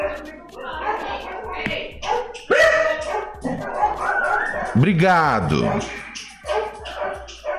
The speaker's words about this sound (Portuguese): Foda, essa hora tem um monte de cachorro latindo na rua, enchendo o saco, velho.